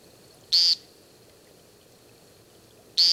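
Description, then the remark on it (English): Two loud, nasal, buzzy peents from a woodcock that has landed on the ground during its display, each brief and sharp, spaced a few seconds apart against a quiet outdoor background with no other sounds. “Having landed on the ground, the woodcock peents several times and then takes flight again, repeating his remarkable display.”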